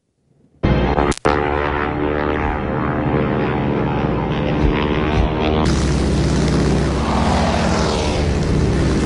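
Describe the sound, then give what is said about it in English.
Propeller engines of biplanes with UN labels on top drone loudly and steadily in a 60-second video, in which Nancy Pelosi and Chuck Schumer fly a plane shooting at Trump as King Kong. A brief sharp click comes first, and a harsher windy roar builds over the second half as the aircraft seems to pass. “So people that are listening, you have airplanes with the UN labels on the top of the planes, and then these are biplanes, and Trump is King Kong in this.”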